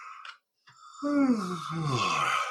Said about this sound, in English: There we go. The yawn came back.